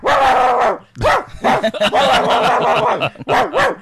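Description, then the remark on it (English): A dog barks in several loud, drawn-out bursts with wavering, bending pitch, almost like yowling, with short gaps between them and no talking. “That sounds like my Cody.”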